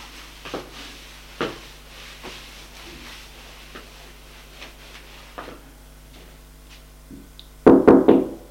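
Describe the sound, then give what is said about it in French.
Knocking on a door as the maid arrives: a quick burst of about four loud, sharp raps near the end, preceded by faint scattered taps and rustling against a low steady hum. “frappe à la porte.”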